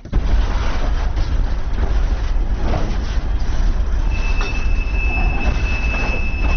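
Rumbling train noise fills a railway depot in Chișinău, where trains modernized in Romania stand on the depot platform among older trainsets, with a steady low mechanical drone and a thin, sustained high squeal of wheels joining partway through, loud with no voices.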